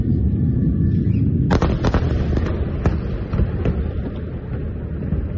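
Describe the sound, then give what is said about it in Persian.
A steady low rumble with wind-like noise, then a burst of sharp cracks and booms from rockets fired from the Gaza Strip toward southern Israel and from Israeli airstrikes on parts of Gaza, several close together and a few scattered after. “عصر دیروز صدها راکت از نوار غزه به سوی جنوب اسرائیل شلیک شد. در پاسخ اسرائیل نیز در حملاتی هوایی بخشهایی از غزه را هدف قرار داد.”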